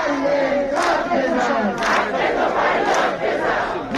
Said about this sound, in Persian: تجمع اعتراض باز هم ادامه دارد. و شعار معلمان در تبریز. معلم داد بزن، حق تو فریاد بزن.